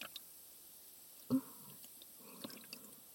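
Warm water drips softly: one clear, wet plop in the middle, then a couple of fainter drops and small splashes over a quiet background, with no voices.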